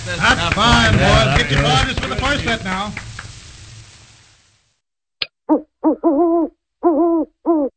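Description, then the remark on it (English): A busy wash of voices or music fades out. After a sharp click, about five short, close hoots follow in an uneven series, each a clear, resonant owl-like call. “How many owls does it take to get to the center of the Hoodie Hood?”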